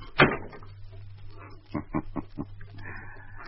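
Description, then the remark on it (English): A door slams shut with one loud, sharp bang that rings briefly, followed by a quick run of four or five soft thuds over a steady low hum. No one speaks. “Slam the door when you go out.”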